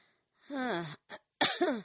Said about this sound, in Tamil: என்னமா இருமல் அதிகமாயிருச்சா? அது எப்பவும் இருக்கிறது தானப்பா.